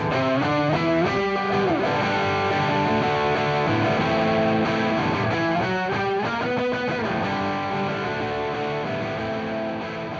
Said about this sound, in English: ZVEX Effects is based in Minneapolis, and they had this new invention called a fuzz factory, which is this crazy sounding distortion box that makes guitars sound like it's a giant zipper being zipped. Very strange sounding.